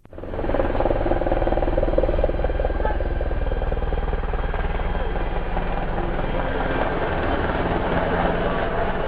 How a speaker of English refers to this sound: Tuesday at 6 p.m. in Mayeni, and a U.S. Air Force Apache helicopter flies along the boardwalk. It's almost never quiet here.